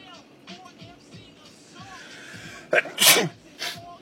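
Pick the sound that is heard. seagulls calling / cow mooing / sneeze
sneeze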